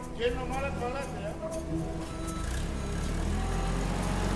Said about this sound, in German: Eine Palette nach der anderen wird mit dem Gabelstapler zur Ladefläche des LKW gefahren.